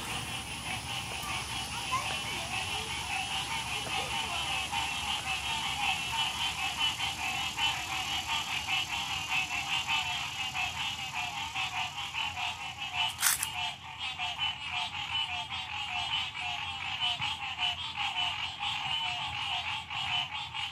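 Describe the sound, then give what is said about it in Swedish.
A dense, continuous chorus of frogs croaking and trilling together at dusk in a small pond near a park in Savannah, steady and loud throughout with no talking, broken only by a brief sharp click partway through. “Och då kom också ljudet från grodorna.”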